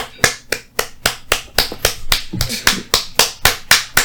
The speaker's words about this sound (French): Vous entendez mes applaudissements?